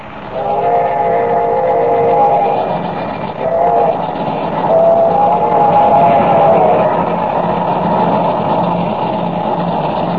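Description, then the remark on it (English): A locomotive train runs along the tracks with a loud, steady rumble and clatter, and a sustained, whistle-like tone swells over it twice. No one speaks. “Instead of leaving Larimer at 6:00, the train left at 5, and is now only 15 minutes from Rainbow Bridge.”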